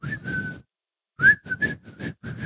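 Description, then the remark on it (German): Someone whistles a short tune, the breathy notes broken into several brief phrases with a pause near the start, no talking over it. “Ich kann nicht pfeifen, während ich lache.”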